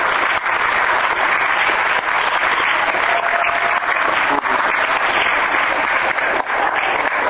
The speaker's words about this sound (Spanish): un aplauso para